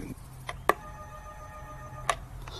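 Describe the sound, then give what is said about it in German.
A doorbell at a house door with a nameplate rings: a click, then a steady, thin electronic tone held for about a second and a half, cut off by a second click. No one speaks. “Auf dem Namensschild steht schon mal der richtige Name und ich klingel mal.”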